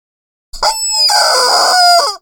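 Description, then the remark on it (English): A rooster lets out a single loud, drawn-out crow lasting nearly two seconds, on its own with no talking, its strained, raspy call rising and then tapering off. “Sometimes it's the chickens.”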